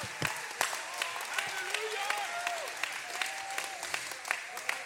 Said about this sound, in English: Oh, clap your hands and praise him in advance.